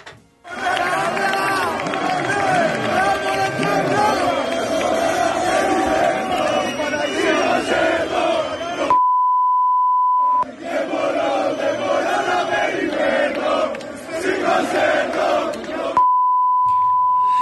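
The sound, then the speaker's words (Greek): A large crowd gathered in the streets across Greece chants loudly in unison "σήκωσέ το τιμημένο", voices rising and falling in a rhythmic shout, broken twice by a steady high beep tone during short pauses. “ο κόσμος όλη την Ελλάδα είναι μαζεμένος στους δρόμους και επειδή περιμένει, μεταδίδονται αυτές οι εικόνες, φωνάζει σήκωσέ το τιμημένο.”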